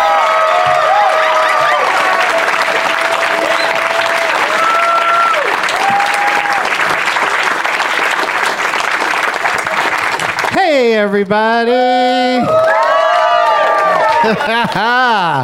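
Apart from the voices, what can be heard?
crowd cheering and applauding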